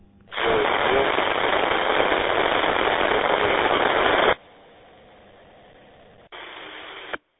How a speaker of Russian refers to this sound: сейчас станция прошла, но очень-очень большие помехи, трескотня одна, слышно, но только одно присутствие только слышно.